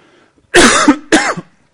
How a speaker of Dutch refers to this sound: Excuses, ik heb ineens heel erg last van hoest.